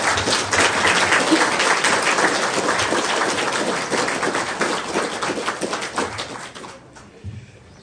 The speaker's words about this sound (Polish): Powitajmy księdza oklaskami. Zapraszam księdza.